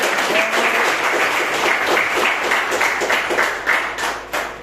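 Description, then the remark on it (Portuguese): A church audience bursts into sustained applause in praise of the name of Jesus, many hands clapping in a dense, steady wash that stays loud throughout with a few sharper claps near the end. “E as palmas que adorem o nome do Senhor Jesus.”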